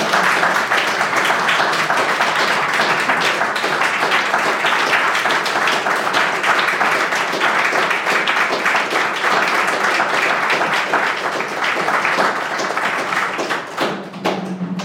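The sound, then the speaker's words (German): Sustained applause from an audience at the Palazzo Sale Solio, a dense steady patter of many hands clapping for about fifteen seconds, fairly loud, thinning slightly at the very end. “Ja, Sie können klatschen.”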